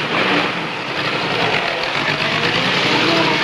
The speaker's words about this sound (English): Balazzi and two other boys watch as the taxi drives off, splashing through large puddles.